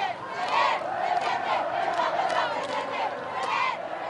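A large crowd of about 100,000 people, many of them young, cheers and shouts continuously as it accompanies Pope Benedict XVI's Popemobile along the 35-kilometre route from the international airport to León; a dense roar of many voices with rising whoops and calls that stays loud and steady throughout.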